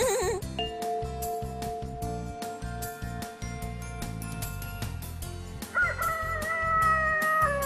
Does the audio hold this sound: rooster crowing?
yes